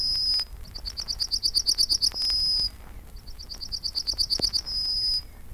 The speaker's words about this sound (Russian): Большинство птиц замолкает к полудню. Только один зяблик не унимается. Он громче и радостней всех.